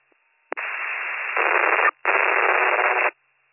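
A loud burst of radio static crackles in two long hissing stretches separated by a brief cutoff, opening with a sharp click like a transmit key being pressed.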